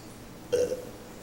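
A single short belch, fairly quiet, rumbling for about a quarter second against a hushed, near-silent background.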